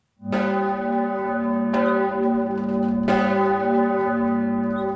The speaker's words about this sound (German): Die Glocken der Benediktuskirche erschallen über dem Freisinger Domberg.